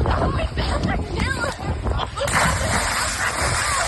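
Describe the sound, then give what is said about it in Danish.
A heavy splash into water from someone doing a cannonball jump, followed by churning, sloshing water, with indistinct voices in the background of a lively outdoor pool or lake scene. “Altså, det lyder jo som om, at det er en kanonkugle, der ligesom...”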